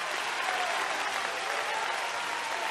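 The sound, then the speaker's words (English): An audience claps their hands together at a preacher's urging, in a steady, dense wash of applause that stays even from start to finish, with no voices standing out. “I want you to clap your hands like you could get healed now.”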